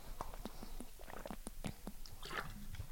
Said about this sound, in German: Ich trinke nochmal einen Schluck Wasser und dann erkläre ich euch erstmal die Vorbereitung, die du treffen musst. Ja, Prost.